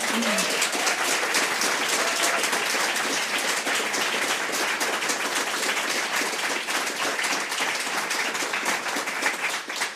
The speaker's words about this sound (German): Die jetzt den Podcast anhören, wissen ja nicht, wie viel Publikum heute da ist. Deswegen nochmal einen Begrüßungsapplaus für Stefanie Sargnagel und Maria Hofer.